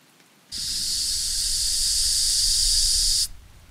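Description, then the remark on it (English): Loud, bright hissing static from a CB radio in a tent at night snaps on abruptly, holds for nearly three seconds while swelling slightly, then cuts off sharply. No voices. “Static emitted from the CB radio, low and quiet, then increasing in volume.”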